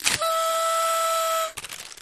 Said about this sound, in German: Hier. Ich muss nochmal in diese Tröte blasen.